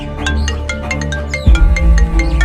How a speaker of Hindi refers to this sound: एक मिनट भैया, फोन आ गया।